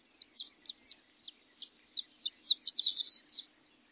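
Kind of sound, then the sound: bird, horned lark song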